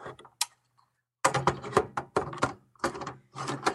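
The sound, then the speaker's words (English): Dry scraping and squeaky rubbing of a plastic NES game cartridge being worked loose and taken out of an NES console, in short bursts with brief pauses, a faint click at the start. “Ooh, it squeaks. Oh. Here, now we're going to take it out nice and slow.”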